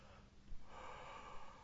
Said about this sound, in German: Und nochmal ganz tief ein- und ausatmen.